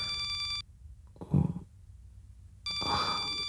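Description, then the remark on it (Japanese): A phone ringtone for a woman's work calls rings in two bright, steady electronic bursts separated by a pause of about two seconds, with a short low grunt-like sound in the gap. “この着信音は彼女の仕事よ。”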